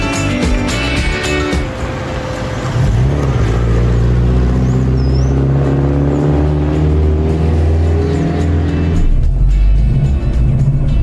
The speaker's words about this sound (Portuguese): Esse som do V4, ele é bem compassado. É bacana o som do V4. Olha só.